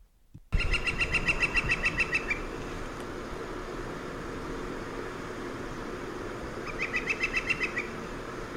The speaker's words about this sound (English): So I'll play that. It's very hard to hear the drumming part, but you'll be able to hear what the vocalizing of the northern flicker is. You'll hear it vocalize twice and then drum twice.